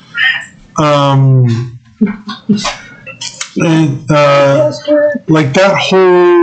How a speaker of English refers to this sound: Stop petting the cat. He's a talker.